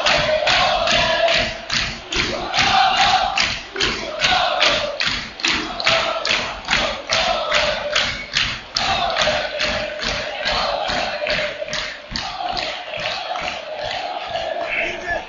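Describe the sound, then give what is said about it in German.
A loud, steady crowd of spectators at a football match involving Bayern, with the score at 4-0, cheers and chants, driven by rapid rhythmic clapping or stomping that pulses evenly throughout, with a sustained roar of many voices underneath and no single speaker standing out. “Ja, und hier die Zuschauer natürlich jetzt komm, dann total einfach begeistert.”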